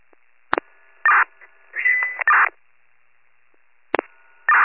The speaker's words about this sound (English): I don't know if you guys are reaching out to me because it's all static, but I'm 72.